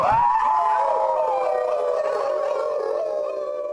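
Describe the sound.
Eight men auditioning for a Wolfman role howl together in imitation of wolves in a group howl on stage at Gene's Playhouse before the audition, long overlapping wavering cries held loudly and steadily for a few seconds, tapering slightly near the end, with no talking.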